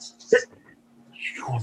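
A single sharp sneeze bursts out suddenly, loud and brief, followed by a short quiet pause and then a softer breathy rustle with low murmuring sound.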